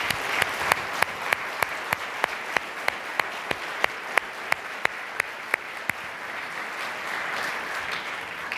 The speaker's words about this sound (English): First of all, I think we should give a big round of applause for all of our speakers today, over 20 individuals.